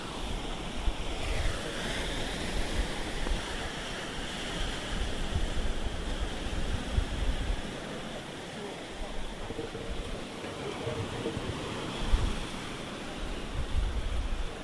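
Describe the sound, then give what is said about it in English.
Rough sea surf roars steadily along the shore on a misty day, a dense, continuous wash of breaking water mixed with gusty wind buffeting the microphone, with no voices heard. “Like a real nose clearing sort of fresh air and the sort of smell of the sea.”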